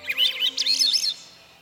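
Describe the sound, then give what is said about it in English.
Birds chirp and trill in quick, warbling phrases against a quiet background at dusk, the last bird calls of the day fading out toward the end as night falls, with no one speaking. “Let's listen as the last bird sounds of the day recede into nightfall.”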